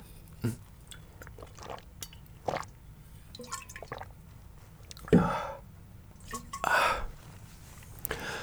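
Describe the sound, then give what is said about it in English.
Quiet liquid sounds: scattered small drips and clicks, then two louder splashy gulps of water being poured and sipped, with no one talking. “Oh, did you get some water? Oh my god, can I have some?”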